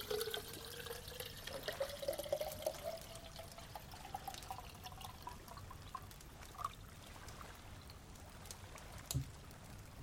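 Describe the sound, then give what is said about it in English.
Water from a bottle pours steadily into a small tin kettle taken from a rucksack, its gurgling tone rising in pitch as the vessel fills, ending with a brief clink and a few soft trickles. “Next up, a wee tin kettle is produced from the rucksack, and you promptly fill it with water from your bottle.”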